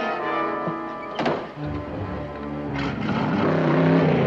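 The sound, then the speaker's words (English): The doors of Buzz's small convertible thunk shut, a first thunk then a second heavy thump, with two people squeezed in side by side. The engine then rises and the car drives off, its motor swelling steadily. “They squeeze into the small convertible beside each other, shut the doors, and drive off.”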